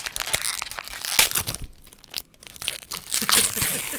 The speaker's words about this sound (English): Anyway, it's time for you guys to unwrap your second beer of Beer Crit Santa. Okay, open your prezzies. Open your presents, kitties.